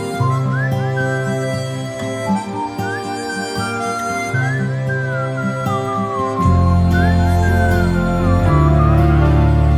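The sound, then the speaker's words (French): A whistled melody with gliding, sliding notes rides over a full instrumental backing with piano and guitar, in the score of a film by Jean-Paul Rouve. It swells louder about two-thirds through, steady and fairly prominent, with no voices. “avec un piano et une guitare et même un sifflement.”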